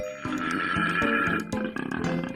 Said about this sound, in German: So tief klingen männliche Koalas in Australien, wenn sie Weibchen beeindrucken wollen. Beim Einatmen klingt es wie ein Esel, beim Ausatmen wie Rülpsen nach zu viel Sprudelwasser.